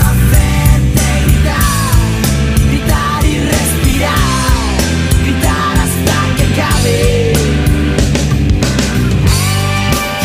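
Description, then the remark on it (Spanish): A loud, dense rock song by a Spanish rock band, the title track of their first studio album from 1993, plays throughout, with driving distorted guitars, steady drums and a shouted, gliding lead vocal riding on top of the full band. “Voy a ir por orden cronológico y con una canción por disco, así que empiezo con su primer álbum de estudio que publicaron en 1993 y con la canción que le da título,”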